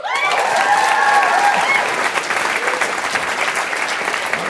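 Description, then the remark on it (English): A live show audience bursts into loud, sustained applause for people behind the show who are not present, dense clapping with a few whoops and cheers rising in the first couple of seconds before settling into steady clapping. “who are integral to the creation and development of this show who are not here tonight and would love if people could give them a little round of applause.”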